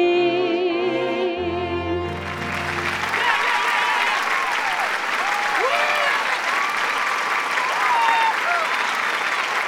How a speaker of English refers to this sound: Kathleen acknowledged the applause, then as the curtains began to close, she held up her hand to stop it and stepped out onto the front of the stage again.